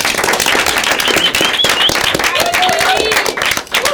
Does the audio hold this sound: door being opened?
no